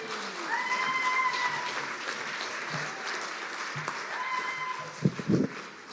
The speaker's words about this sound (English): And all the crowd cheered. Hooray! You see? Thank you very much.